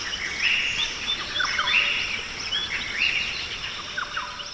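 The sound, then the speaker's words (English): Dense rainforest ambience, a live recording beamed out by sensors in the trees: a steady high hiss of insects underlies repeated bright bird whistles and chirps, some rising and falling in pitch, with no talking throughout. “This is a live recording of a rainforest.”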